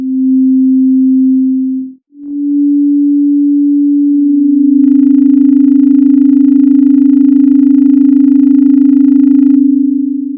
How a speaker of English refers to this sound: If you take two waves a bit further apart in frequency, like the following two, 10% apart, the beating gets faster.